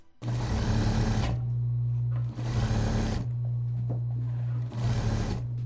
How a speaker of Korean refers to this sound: 재봉틀 돌아가는 소리가 바쁘게 들리고 있습니다. 이곳은 경기도 부천시 소사지역 자활센터입니다.